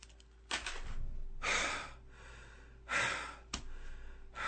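Heavy, labored breathing: a few long, loud exhales and sharp intakes of breath, coming in uneven bursts with no talking.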